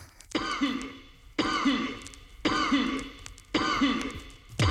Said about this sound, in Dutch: Die even hoest in de microfoon. Het hoort op de plaat. Ik weet niet waarom.